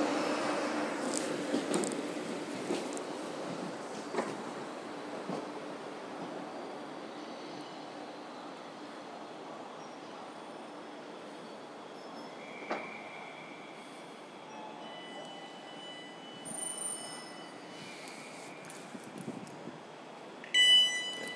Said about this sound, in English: Okay, so we've come to the end of the canopy where the lights just stop. And I think what we'll do is we'll hop on this train and then have a quick look at the phone and work out whether it was actually the train that I wanted to be on.